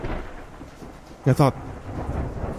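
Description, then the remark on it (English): Steady rushing rain with hail and a low stormy rumble throughout, broken midway by two short, bright tonal bursts in quick succession before the downpour carries on. “I just kept going, 5, 10, 15 miles per hour, through the surf and the storm and hail.”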